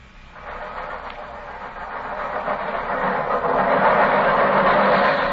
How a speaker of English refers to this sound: Holmes, the underground runs right past here, almost on the level of these windows. I could have reached out and touched it.